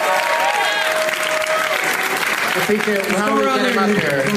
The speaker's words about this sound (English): Round of applause for all the name tags, you guys. Come on.